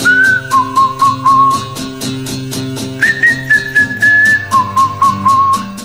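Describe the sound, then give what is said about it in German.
A clear, steady whistled melody carries over a rhythmic pop backing with regular percussive hits, sustained notes stepping between a few pitches across the phrase, in a summer hit song by a performer from Vienna. “Ich pfeife aus dem Sommerloch.”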